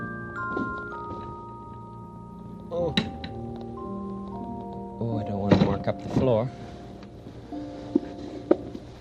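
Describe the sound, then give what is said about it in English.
A wooden chair is set down on a clean hard floor with a few dull, knocking thunks and a short scrape, while a voice carries on in the background. “There you are, chairs right on the clean floor.”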